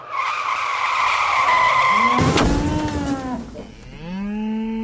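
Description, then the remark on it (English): A sound effect of a car's long, loud tire screech ending in an abrupt crash, followed by a drawn-out, cow-like mooing, illustrating Nixon crashing his car into a Dairy Queen. No one speaks. “It's like if Nixon had managed to distract everyone from Watergate by crashing his car into a Dairy Queen.”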